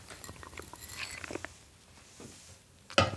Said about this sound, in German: So, einmal kurz einen Schluck Wasser trinken.